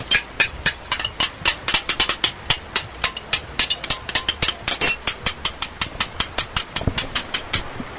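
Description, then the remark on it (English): A blacksmith's hammer rings against an anvil in a steady, rapid rhythm, dozens of sharp metallic strikes over a low background hum, in a simple workshop with a clay fire on the ground and leather bellows, with no one speaking. “these beautiful gates are all hand-forged with a hammer on an anvil”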